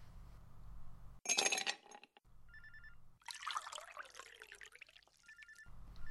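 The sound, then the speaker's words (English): A person pours themself a drink into a glass, with a sharp clink of glassware followed by a few seconds of bubbling, gurgling liquid over a low steady background hum. “You go change into your outfit, and I'll pour myself a drink.”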